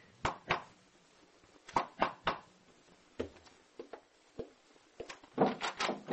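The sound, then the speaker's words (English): The door of a house in Paris used as a hideout being opened: a quick run of sharp knocks, clunks and rattles at an uneven pace over a few seconds, fairly loud, with no voices. “Quick, let me in. Shut the door.”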